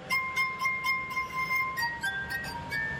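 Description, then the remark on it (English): Sustained, shimmering glass tones ring out from a glass harp in clear pitched notes, one melody line moving between steady held pitches with a soft wash of resonance underneath, with no voices. “There have been about 400 musical compositions written just for the glass harp.”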